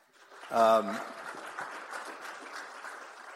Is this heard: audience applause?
yes